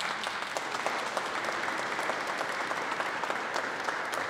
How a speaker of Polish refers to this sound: wielkie brawa.